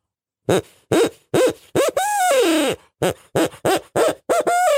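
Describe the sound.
A person imitates an owl, giving a loud series of rhythmic hoots with a longer drawn-out wavering call in the middle, followed by more quick hoots ending in a trailing note.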